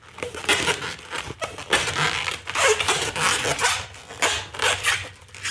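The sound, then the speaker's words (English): Rubbery squeaking and scraping as a green balloon is twisted, a steady run of rasping, crinkly friction bursts with brief high squeals, fairly loud and with no talking. “So you take the green one, and you twist it, and you twist it, and you twist it.”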